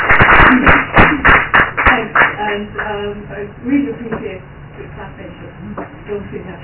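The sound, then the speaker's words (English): A burst of audience clapping, dense and fairly loud at first, then thinning into scattered claps that fade over several seconds, with some murmuring underneath. “I really appreciate the clapping.”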